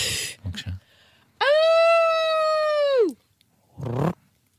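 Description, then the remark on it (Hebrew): A person's voice imitates a jackal howl: one sustained, wavering high-pitched wail rising quickly and holding for nearly two seconds before falling off, set between brief bursts of speech. “את יודעת לעשות יללות של טן? כן. נו, תעשי.”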